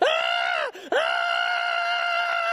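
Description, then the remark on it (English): A voice imitates a 5-year-old boy's shrill, banshee-like screaming at Laker fans in a stadium: a loud, piercing sustained shriek, briefly broken near the middle, then resuming at full strength and holding steady to the end. “He's yelling. He's screaming.”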